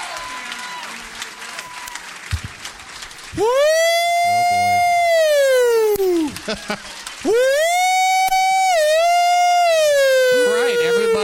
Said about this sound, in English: File out of the building as apparently some sort of alarm has gone off. Safety first.